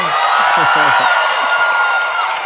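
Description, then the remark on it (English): A crowd applauds and cheers steadily for Crooked contributor Tim Miller for a couple of seconds, with dense clapping, scattered whoops and overlapping voices, loud throughout before easing slightly at the end. “So Tim's strange amount of applause.”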